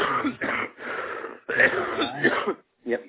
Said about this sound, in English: Are you okay, buddy? Yeah, sorry, I was just coughing, sorry.